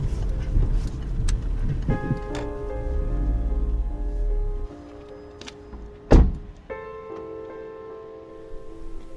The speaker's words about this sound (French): Je vais me garer derrière sa voiture.